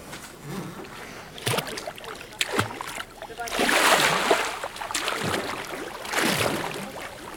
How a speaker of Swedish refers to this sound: Det simmas mycket på lägret. Just nu är här 8 barn i vattnet. De hoppar och har skoj, men det hörs just ingen dialog.